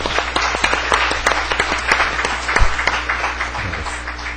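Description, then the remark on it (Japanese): A church audience applauding steadily to bless a couple, dense overlapping claps filling an indoor space for several seconds, with a faint low hum underneath and no one speaking. “もう一度拍手で。”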